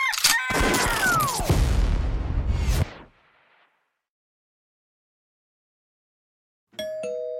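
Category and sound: signal or alarm, doorbell ringing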